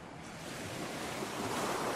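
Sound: ocean waves breaking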